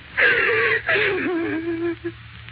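A woman voicing the character Della, on a shabby little couch, cries in two drawn-out, wavering whimpers, her voice breaking and sliding in pitch, followed by a short sniffling catch of breath. No words are spoken.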